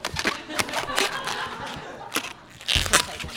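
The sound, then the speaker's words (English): An old rubber balloon squeaks and creaks as it is twisted into an animal shape, with a run of irregular rubbery rubs and crackles and a louder squeal near the end. “It's funny, like, I don't buy these balloons very often. I could feel that this one's kind of old, so it actually might pop.”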